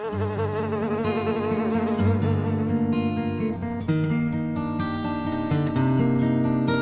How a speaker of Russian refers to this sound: Я тебе говорю, улетай! Сейчас же улетай! В нашем городе разрешается жужжать только серым мухам, а ты зеленая.